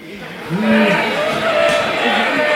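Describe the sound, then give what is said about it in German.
Loud, steady construction-site racket heard outside when a balcony door is opened: a broad roar of machinery with engine-like whines that rise and fall in pitch, starting abruptly after a brief quiet moment and continuing without a break. “Also ich kann es Ihnen mal kurz zeigen, wenn wir hier die Balkontür aufmachen, hört man natürlich sofort draußen die Baustelle.”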